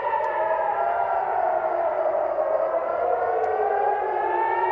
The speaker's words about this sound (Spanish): De inmediato, los combatientes palestinos lanzaron desde Gaza decenas de misiles contra la zona sur de Israel y también contra la zona de Tel Aviv, donde podían oírse las alarmas antiaéreas.